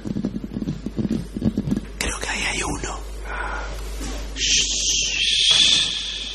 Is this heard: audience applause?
no